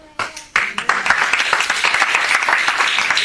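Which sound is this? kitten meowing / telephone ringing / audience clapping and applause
audience clapping and applause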